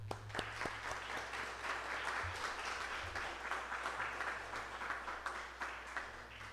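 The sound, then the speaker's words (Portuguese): An audience applauds in praise of the Lord after a blessing, steadily for several seconds, a dense, even wash of many hands clapping with a few sharper claps standing out, and no one speaking over it. “Foi um grande prazer estar aqui, e as tuas palmas vão louvar ao Senhor.”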